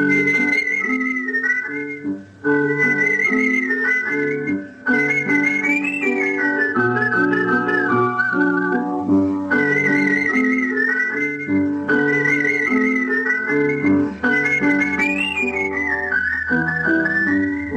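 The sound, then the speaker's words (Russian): A melody whistled clearly and skillfully over an instrumental accompaniment, artistic whistling on a Radio Svoboda programme, the bright tune gliding and ornamented, steady and prominent throughout with no talking. “Передача Тамары Лиленковой «Художественный свист».”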